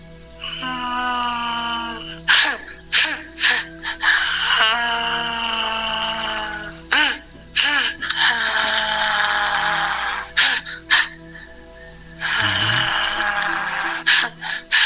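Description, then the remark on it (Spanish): A voice imitates an eerie, drawn-out wailing cry, with long quavering wails broken by short gasping breaths, fairly loud over a steady low hum. “El llanto más o menos era así.”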